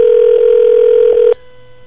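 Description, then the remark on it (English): A steady, loud telephone dial tone hums for over a second, broken by a few quick dialing blips before it cuts off abruptly, leaving faint line hiss. “Just get some from Selfish on the phone”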